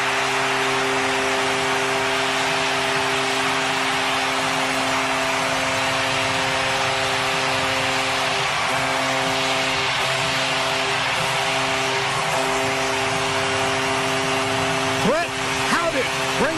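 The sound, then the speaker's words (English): An arena goal horn blares for a Knights goal by Howden, making it 4-0 in a Stanley Cup playoff game: one long, unbroken low chord for over fifteen seconds, layered over a dense roar of crowd noise, with a few sliding tones near the end. “I wanted to hear how long he could honk the horn.”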